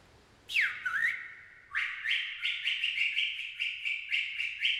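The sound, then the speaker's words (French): A small bird chirps: a sharp descending call, then a quick run of rapid, high-pitched chirps repeating in a steady rhythm, bright and fairly loud with no voices. “Le lendemain, alors qu'il se rafraîchissait au milieu d'une cascade assourdissante, Osvaldo entendit un tout petit piaillement. Comme une mélodie joyeuse qui semblait venir de l'arbre le plus haut.”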